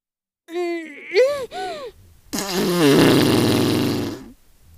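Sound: fart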